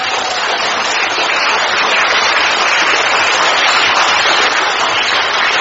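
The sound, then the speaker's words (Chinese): A crowd applauds steadily for several seconds, a dense, even wash of many hands clapping at a constant loud level with no voices over it. “啊，我想想看，你们又上当了，又鼓掌，对不对啊？”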